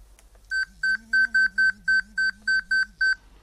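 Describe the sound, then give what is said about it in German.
An electronic obstacle-warning alert from an Inomake Clip: about ten short, evenly spaced high-pitched beeps over a steady low buzzing vibration, moderately loud, with no one talking. “durch zusätzliche Vibrationspulse, die sich von den Kompass- oder Navigationspulsen des Fieldspace unterscheiden, sodass man genau weiß, wenn etwas Bestimmtes vibriert hat, das war jetzt eine Meldung vom Inomake Clip.”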